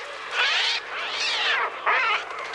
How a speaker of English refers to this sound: Ironically, Alfred Hitchcock didn't use any birds for the soundscape of his classic horror film, The Birds. Instead, the sound of those murderous seagulls was made using an early synthesizer called the Trautonium.